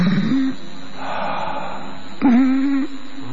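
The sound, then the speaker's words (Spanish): Heavy, labored breathing, close and fairly loud: a voiced, groaning exhale, a long breathy inhale, then another drawn-out moaning breath. A voice appears to be imitating the sound. “Quedó en el palacio y algunas noches, en la tercera planta del edificio, se oye un respirar pesado.”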